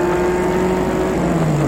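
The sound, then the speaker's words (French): A car engine hums steadily as the vehicle drives along a narrow street, its droning pitch easing slightly lower toward the end, with no voices. “La voiture longe la petite rue.”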